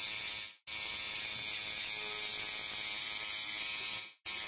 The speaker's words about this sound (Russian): Звук татуировочной машинки очень похож на звук бармашины-стоматолога, поэтому тем, кто боится этого неприятного звона, на фестивале тату делать точно нечего.